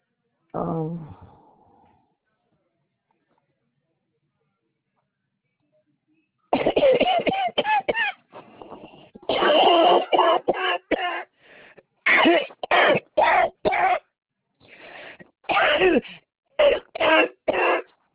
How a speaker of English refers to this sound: Well, you okay? Yeah. It's horrible. Horrible cough.